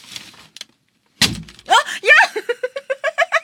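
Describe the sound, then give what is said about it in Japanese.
One sharp, papery slap as a hand flattens newspaper that was wrapped over a glass holding a 100-yen coin, with a dull low thump, then voices burst out exclaiming and laughing in quick rhythmic pulses. “今、少し、新聞紙をかぶせながら、100円の入ったコップを動かして、はい、手前に動かして、で、また動かして、はい、新聞紙を上から叩いたら、 はい、 コップはありませんでした。”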